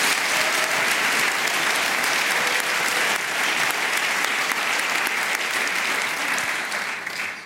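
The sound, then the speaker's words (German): A studio audience applauds as a guest is welcomed, a dense wash of many hands clapping at once, loud and sustained for several seconds before beginning to ease off at the end. “der jetzt gerade wieder verwacht ist wegen dem Lärm, den das Publikum gemacht hat.”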